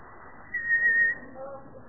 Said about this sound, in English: I whistled.